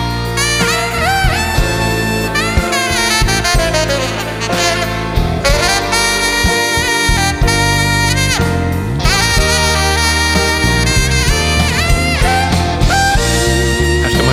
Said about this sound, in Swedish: Tror du att det kommer ett saxsolo möjligen här längre fram? Det tror jag.